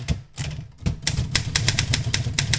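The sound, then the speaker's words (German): Rapid clacking of keys on an Erika manual typewriter, loud, with a resonant metallic body hum beneath the irregular strikes; no voices. “Meine Güte, was für einen Resonanzkörper so eine Maschine hat.”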